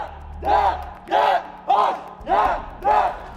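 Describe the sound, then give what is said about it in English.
A crowd chants the letters YDGH in unison, shouting each letter in their mother tongue: five loud, evenly spaced syllables in a steady rhythm, each call rising and falling in pitch with brief gaps between them. “Suddenly from each corner, the chanting of YDGH rose. They shouted each letter in their mother tongue.”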